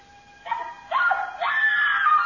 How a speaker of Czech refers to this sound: Ztratil se někde v domě a po chvíli jsem slyšel výkřik.